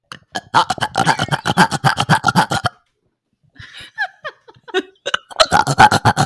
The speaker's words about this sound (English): I can do a series of burps where I burp in and out and in and out and in and out and in and out and in and out and in and out indefinitely. Let me do rapid burping for you, because that one's actually wild. Okay. It goes like this.